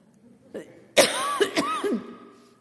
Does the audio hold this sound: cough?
yes